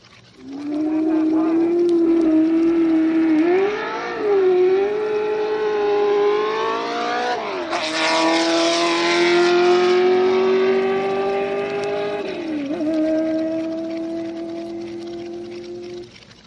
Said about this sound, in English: Next is the sound of the car that recently won the International 2,000-kilometer endurance race at Daytona, the Ford GT.